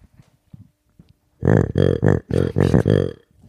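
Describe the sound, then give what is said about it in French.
A vintage 1990s plush toy bear called Grumly lets out a series of loud, low, growling grunts, about six rough bursts in quick succession, preceded by a few faint clicks. “C'est genre une peluche des années 90.”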